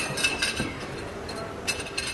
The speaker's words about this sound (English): And stroll down almost any street around lunch or dinner time, and you'll be greeted by the clinking of plates and glasses around a table.